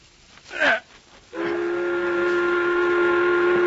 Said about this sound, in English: Midday and time for meal. Why do you stand with hammer poised over your head? What? The whistle has blown. Come, let us eat.